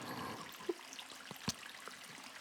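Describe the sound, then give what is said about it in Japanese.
Soft, slippery rubbing of shower oil on skin, with a few brief wet squelches popping out of a quiet, hissy background; no voices. “シャワーオイルってこういう意外な音が鳴るからいいんです。”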